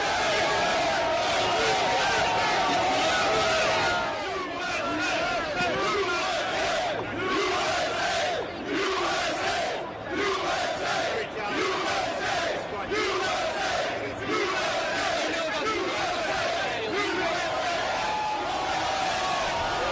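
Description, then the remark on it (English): A large crowd cheers and shouts wildly and continuously for Trump, a loud, dense roar of many voices with rhythmic chanting bursts rising and falling throughout. “The crowd here is going wild for Trump.”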